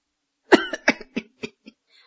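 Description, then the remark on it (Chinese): A voice imitates the wheezy coughing fit of Liu Xuanchu, an old man of nearly 70 with asthma: one strong hack, then about five quicker, weaker coughs that taper off, with no talking. “今年已经将近70岁了，长得瘦骨伶仃的，因为他有这个气喘病，所以一说话呀得先咳嗽，说话还好像底气不足。”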